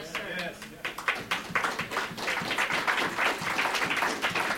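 Scattered applause from a crowd: a few uneven claps at first, quickly filling into a steady patter of many hands that carries on for several seconds at moderate loudness.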